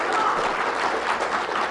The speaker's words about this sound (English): You know, every time she claps, if you all would clap, everybody online would appreciate it. They really would. Let's try one more time. Try one more. Come on.